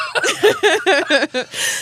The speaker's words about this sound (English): Stop. I actually am coughing.